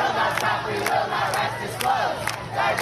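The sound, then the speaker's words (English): A large crowd of student protesters against the war in Gaza, demanding their university divest from Israel, chants in unison with a steady, rapid beat, loud voices rising on each accented syllable over a continuous roar of many people. “Protests also cropping up at Brown and Harvard, where students protesting the war in Gaza are demanding the university divest from Israel.”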